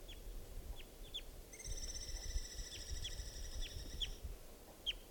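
A wild immature bird, believed to be a male molting into orange plumage, calling: a drawn-out, steady, high-pitched note lasting a few seconds, with short, sharp chirps scattered before, during and after it, over a low rumbling background.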